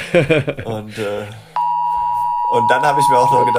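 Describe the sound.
A smartphone emergency alert tone, the 11 o'clock signal for a test of the sirens, cuts in abruptly after a man's speech, a steady, piercing electronic beep that holds unbroken and keeps sounding loudly beneath the talk when it resumes.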